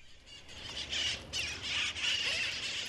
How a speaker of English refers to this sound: the wild parrots of Telegraph Hill. In fact, the birds are actually wild parakeets, but they're colorful like parrots, and people come from all over to see them.